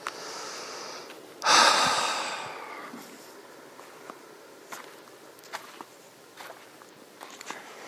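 A sharp, heavy breath or snort near the start, followed by soft, irregular footsteps of a person walking around outdoors at night in the desert, in cool, dry desert air, over a quiet background hiss. No one speaks.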